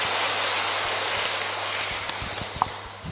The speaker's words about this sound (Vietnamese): Cho một tràng pháo tay để cho anh ta linh tinh thần mạnh mẽ lên.